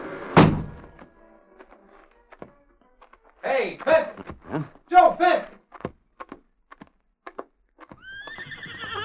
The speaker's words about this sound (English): The guard will take you to the front gates. A short time later, the big gates closed behind Joe Fenton.